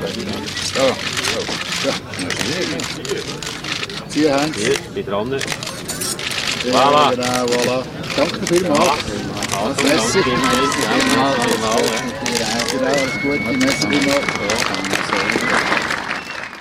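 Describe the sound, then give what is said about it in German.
A dense flurry of camera shutter clicks and flashes rattles on continuously, sharp, mixed with scattered voices and crowd murmur throughout, as three politicians cut the ribbon at an opening ceremony. “Es ist darum ein bisschen länger gegangen, bis die drei Politiker im Blitzlichtgewitter das Band durchgehauen”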